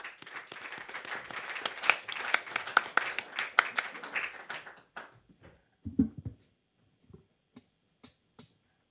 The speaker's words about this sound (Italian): Detto questo, passiamo al prossimo comico, sennò finisce malissimo. Sì. Un applauso fortissimo per Marco Montrone.